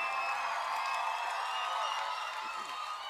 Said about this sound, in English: When we mention his name, you stand up. Accompany your standing up with clapping and shouting.